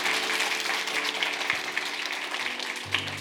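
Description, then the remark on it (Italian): An audience claps steadily for about three seconds, a dense, even wash of many hands with no voices over it, holding a fairly constant loudness throughout. “Un applauso alla spegni.”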